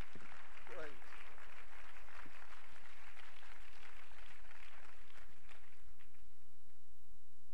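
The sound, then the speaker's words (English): An audience claps their hands to the Lord in worship, a dense, steady wash of overlapping claps that carries on for several seconds before tapering off, with a faint voice underneath. “Come on, why don't you clap your hands to the Lord?”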